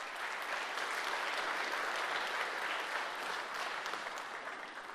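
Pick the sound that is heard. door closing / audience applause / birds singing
audience applause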